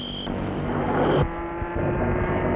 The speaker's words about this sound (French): La voiture est partie.